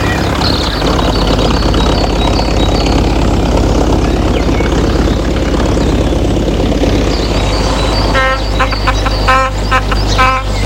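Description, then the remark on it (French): A car engine idles with a steady, loud low rumble that runs the whole way through, joined near the end by a brief burst of rhythmic higher-pitched tones. “Le revoilà dans sa voiture, avec son cigare et son chauffeur.”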